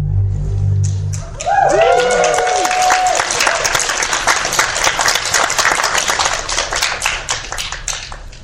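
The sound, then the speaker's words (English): Loud, dense applause from an audience breaks out after a second and keeps going steadily to the end, with a brief swooping whoop-like tone near the start. “Applause, obviously, for our new venue, finally!”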